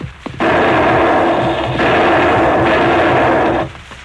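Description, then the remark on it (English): Three loud gunshots at close range, fired from an ambush beside a hillside trail, boom in quick succession, each blast running into the next with a long, rumbling tail that fades out after the third. No voices are heard. “Three shots ring out at close range.”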